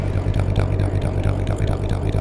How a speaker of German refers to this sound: Captain, merkwürdiges Schraubengeräusch auf 30.000 Meilen. 30.000 Meilen? Ich wusste gar nicht, dass man tiefer sinken kann als wir. Captain, hören Sie sich das mal an.